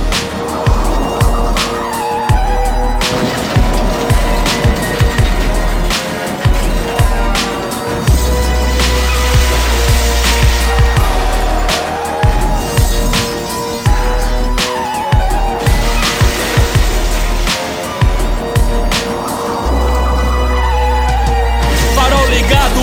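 A car speeds along a road with a loud, sustained engine roar and bursts of tire squeal, the revving rising and falling for the whole stretch, with no one talking.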